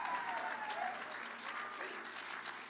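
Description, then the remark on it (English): An audience claps and shouts for God, a dense, continuous wash of applause with scattered voices shouting and cheering mixed into it, holding at a fairly even loudness throughout. “Come on, give God a shout and a clap if you're believing that today.”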